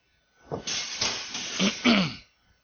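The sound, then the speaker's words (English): A burst of air-conditioning hiss lasting about two seconds, a broad rushing noise that swells in a few pulsing surges before cutting off abruptly, with no talking over it. “Air conditioning.”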